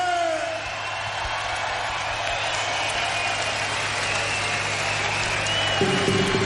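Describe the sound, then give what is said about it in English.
A large crowd at the Lowlands festival in Holland cheers and applauds for a crew member's 42nd birthday in a loud, steady roar of clapping and shouting that holds for several seconds without letting up. “So a little cheer for Dave there.”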